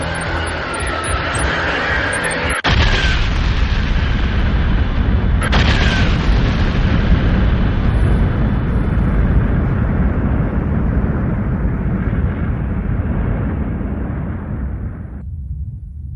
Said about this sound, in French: Quand la quantité de fer excède un certain niveau dans une étoile, celle-ci ne peut plus s'en accommoder et elle finit par exploser dans ce qu'on appelle une nova ou supernova.